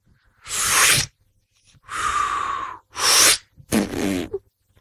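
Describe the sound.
Four separate fart noises, each a loud, breathy, sputtering burst lasting under a second, with short silent gaps between them; the last one has a rougher, rippling rasp. No one speaks.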